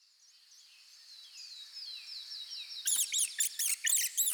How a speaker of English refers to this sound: Hey, listen. Is that a bird? No, it isn't. It's noisier than a bird. Is it a squirrel? Yes, it is. Look, it's a baby squirrel.